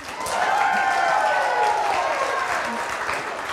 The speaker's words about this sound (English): We'll see if we can get a bigger clap for Christabel.